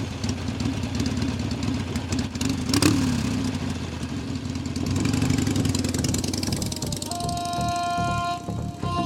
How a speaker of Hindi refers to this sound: तीनों अपनी बाइक से वागा की ओर निकलते हैं।